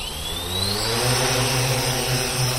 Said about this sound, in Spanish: En otras ocasiones como divertimento para hacer fotos, por ejemplo cenitales, incluso para hacer dibujos luminosos en el cielo durante espectáculos de luz y sonido. Son los drones.